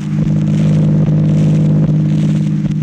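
The engine of Don's car rumbles steadily, a low continuous drone with faint rattles and clicks, as the car pulls away. No one speaks.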